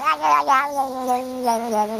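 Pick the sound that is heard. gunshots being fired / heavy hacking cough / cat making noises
cat making noises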